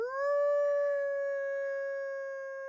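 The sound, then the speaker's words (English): A woman biologist cups her hands around her mouth and lets out one long, steady howl in imitation of a wolf on a cold Wisconsin night, rising briefly at the start and then held at an even pitch, fairly loud with no other sounds. “She raises her face, cups her hands around her mouth, and howls.”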